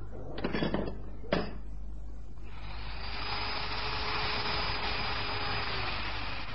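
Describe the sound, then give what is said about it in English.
Two sharp metallic clanks, then a power drill starts up and runs against a safe being drilled open, with a steady, loud, high-pitched grinding whine against metal, continuing without a break to the end. “Well, now, I guess I'll start with a drill.”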